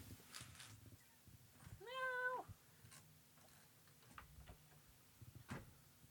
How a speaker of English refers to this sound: my cat's fucking going crazy at the window. All right, just a sec. Let's let the cat in.